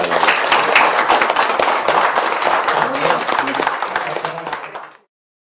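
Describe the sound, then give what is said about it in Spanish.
A crowd applauds steadily for about five seconds, dense overlapping claps forming a loud, even wash of sound that cuts off abruptly at the end. “Un fuerte aplauso para Juan.”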